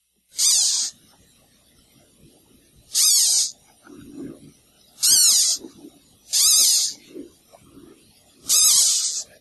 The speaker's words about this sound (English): Few people did get it right that's a caterpillar.